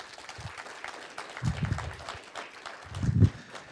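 An audience claps their hands for a man after his testimony, in a steady, fairly soft patter of overlapping claps, with a couple of brief louder swells partway through and near the end.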